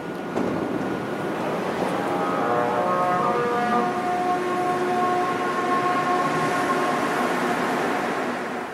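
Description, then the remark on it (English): A Montreal Metro MR63 train accelerates at a station with a steady rumble while several musical, cello-like tones rise and hold in pitch above it, loud, with no voices. “When this train leaves or arrives at different stations, the sound of a cello arises from the metro.”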